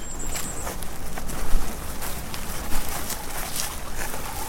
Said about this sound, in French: Voilà, c'est un bruit qui nous enchante tout le temps, c'est magnifique cette tempête.